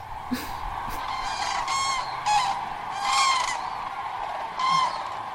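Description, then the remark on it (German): A flock of wild geese honks as they fly over on migration. Repeated nasal calls overlap in uneven bursts against a steady background hiss, fairly loud. “Also die Wildgänse, die hier rüberziehen, und die Kraniche.”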